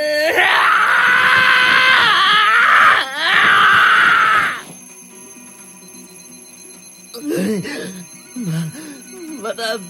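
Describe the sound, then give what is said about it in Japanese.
A loud, harsh alarm bell rings continuously for several seconds, pauses for an instant, then rings again before cutting off; a voice speaks in short bursts afterward. “また鳴り出した。この忌々しいアラーム。”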